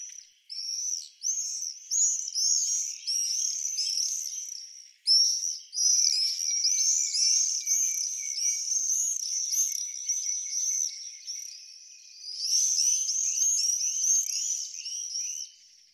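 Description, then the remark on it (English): Shrill, high-pitched screaming calls from a group of summer migrant birds that arrive from Africa in early May and leave in early August, heard in high summer. The calls overlap in an almost unbroken chorus with one brief pause partway through, fairly loud and with no talking. “So we've just got 3 months in high summer of this excited screaming that accompanies that feeling of sunshine and heat and the joy of summer.”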